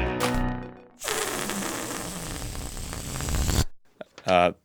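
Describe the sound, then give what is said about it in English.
A sound effect intended as an explosion comes out as a harsh, rasping burst of noise lasting about three seconds, more like a zipper or tearing than a blast, with brief voices before and after. “That sound effect was supposed to be an explosion.”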